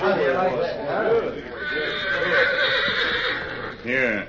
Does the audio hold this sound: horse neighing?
yes